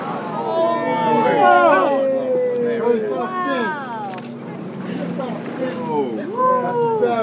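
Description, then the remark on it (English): A boat engine drones steadily on the water for the whole stretch as the boat follows a shark, while a busy tangle of rising and falling cries and chatter rides over the motor's hum. “That boat follows one shark, we follow another, and get as close as we can.”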